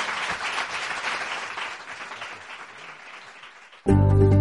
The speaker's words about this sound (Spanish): En directo hoy con el consejero delegado, que agradezco muchísimo su presencia y, por qué no, le damos otro aplauso para despedirlo. Muchísimas gracias.